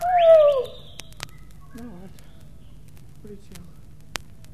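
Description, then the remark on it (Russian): A caged starling gives a loud, descending whistled call, followed by a few softer warbling chirps and scattered clicks against a low steady hum. “Не открывайте дверцу. Скворец улетит.”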